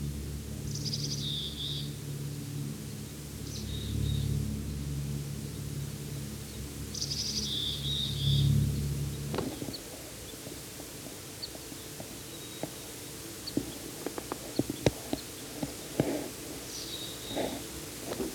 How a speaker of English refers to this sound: Can't quite see this bird. It's giving a type 3 call. There it is. At the very top of a pine. It just went down a little. And it just flew to the next tree.